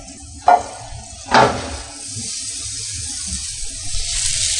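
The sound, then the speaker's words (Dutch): Asparagus sizzling in a hot wok, seasoned with a little salt and pepper and cooked for about four minutes: two sharp hissing bursts early on settle into a steady frying crackle that brightens toward the end, with no talking. “Deze gewokte kun je ook lekker als een voorgerechtje met een beetje warm gerookte zalm erbij.”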